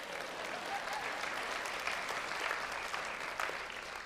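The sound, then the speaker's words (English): An audience breaks into steady applause, a dense, even patter of many hands clapping that holds at a constant moderate level for about four seconds with no voices over it. “If you're going to clap, do it.”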